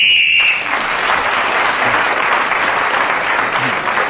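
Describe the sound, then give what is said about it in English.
A single short, shrill whistle blast, blown to end a round of a game, sounds for about half a second, then a steady wash of audience applause takes over and continues loudly to the end. “The end of that round, Clement Freud, speaking as a whistle when, gained that all-important extra point.”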